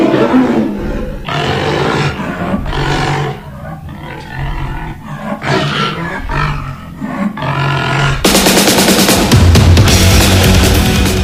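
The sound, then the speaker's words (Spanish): A series of loud, deep roars like a big cat, coming close together in rough bursts for several seconds, then giving way abruptly to loud, dense music. “Con estos rugidos rockeros iniciamos este día jueves, jueves de rock en español.”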